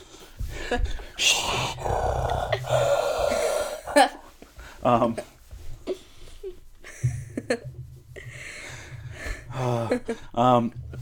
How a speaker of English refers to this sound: People are gonna stop listening to this podcast because of your heavy breathing, I swear.